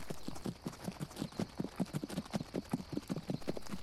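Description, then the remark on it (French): Six horses gallop at a fast, steady pace across a flat heath at night, their hooves pounding in a dense rhythmic clatter that stays loud throughout, with no voices. “Malgré la clarté laiteuse des étoiles et de la lune se reflétant sur les armures polies, malgré le martèlement des sabots et le tintement des épées, votre escapade vers l'est se fait sans éveiller l'intention des patrouilles ennemies.”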